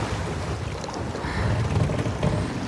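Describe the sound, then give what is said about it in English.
Choppy ocean water sloshes and churns steadily in a storm with high waves while strong wind roars across the microphone, a loud, continuous rush with no voices. “And the water is so choppy from the sneeze and the storm.”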